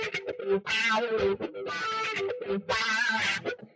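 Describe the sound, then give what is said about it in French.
A short, distorted musical jingle from the TV show Les Enfants de la télé, introducing a press review segment. It plays in three loud, bright bursts with brief gaps between them, sounding processed and harsh, lasting only a few seconds with no talking. “Alors, c'est ça ton nouveau jingle?”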